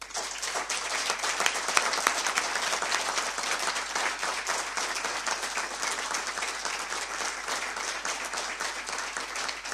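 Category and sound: crowd, warm applause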